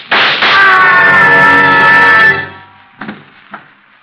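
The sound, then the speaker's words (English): A loud, sustained scream from downstairs lasting about two seconds, followed after a brief pause by two sharp gunshots, the second fainter than the first. “I heard a scream. Downstairs. So did I. And shots.”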